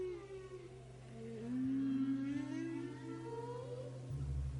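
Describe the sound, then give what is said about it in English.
Long, sliding whale calls, recorded with hydrophones in the water, moan and rise through a steady low underwater hum, with harmonic tones swelling and fading over several seconds and no voices present. “I was listening to the whales, I was listening to the dolphins, I was listening to the killer whales, I was listening to the seals.”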